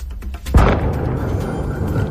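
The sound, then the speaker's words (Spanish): A single deep boom of an explosion in the district of Avalon breaks a quiet background, followed by a long, low rumbling decay that lingers for more than a second. “La explosión que escuchamos desde aquí, en el distrito de Avalon, aparentemente sin daño, según los primeros reportes que hace el ayuntamiento.”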